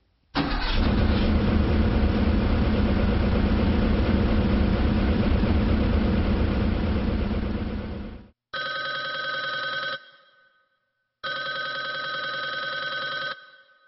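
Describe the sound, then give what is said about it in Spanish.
A car engine cranks and runs with a steady low rumble for about eight seconds, then cuts off, followed by two bursts of a shrill, ringing telephone bell separated by a short silence. “Usted acaba de escuchar el ruido de un automóvil y el timbre de un teléfono.”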